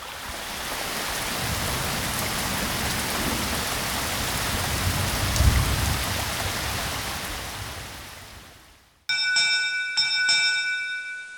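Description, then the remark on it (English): Heavy rainfall makes a dense, steady hiss for about nine seconds, with a brief low thump midway. It fades out and gives way abruptly to ringing, bell-like musical tones. “we close with sounds of two aspects of his research: stream flow at Tyler's research site, and a heavy rainfall.”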